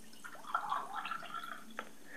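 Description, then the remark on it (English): Tea trickles and splashes into a cup, a quiet, bubbling pour with a few faint drips, heard alone without any talking. “I'm going to pour some tea for this.”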